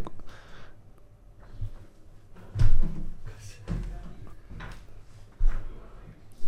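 A door swings shut with a dull thud, followed by a couple of softer clunks and rattles as it settles, against a quiet background.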